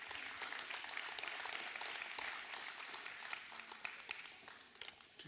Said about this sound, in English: So it's a big round of applause right now.